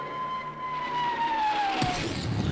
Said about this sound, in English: Then the Royal Canadian Air Force will fly overhead towing a 10-ton maraschino cherry, which will be dropped into the whipped cream to the cheering of 25,000 extras.